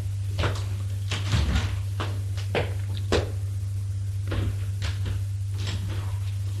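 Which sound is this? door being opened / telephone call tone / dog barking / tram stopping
door being opened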